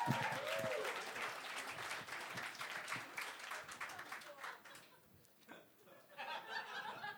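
An audience breaks into sustained applause, dense irregular clapping with a few chuckles and cheers mixed in, dipping briefly before swelling again at the end.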